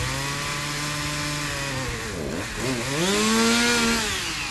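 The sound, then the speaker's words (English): A chainsaw engine whines steadily, then bogs down with a sagging pitch as it bites into wood while cutting a tree, before revving back up to a loud, sustained buzz. “Michael Gagneau is too busy mowing grass, digging holes at the cemetery, or cutting trees.”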